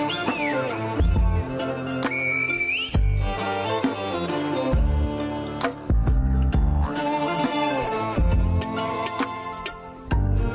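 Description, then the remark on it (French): A few sharp, high whistled tones, one gliding down and another held steady before rising, ring out over busy, rhythmic music that continues throughout. “Au menu, un mojo piquant qui monte aux yeux, et à nouveau un sifflement pour se dire adieu.”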